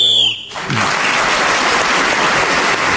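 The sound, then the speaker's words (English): A short, shrill whistle blast, blown to end a round, rings out for about half a second, then is immediately swallowed by loud, sustained applause and crowd noise that continues to the end. “Clement was speaking as a whistle when gained that extra point”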